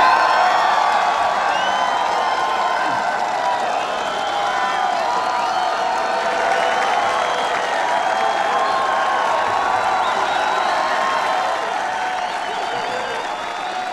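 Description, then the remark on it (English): A large crowd of sailors on the deck of the USS Abraham Lincoln applauds and cheers steadily, welcoming the President of the United States, with loud, dense clapping and scattered shouts and whoops sustained throughout without a break. “A very appreciative crowd of sailors welcoming the president.”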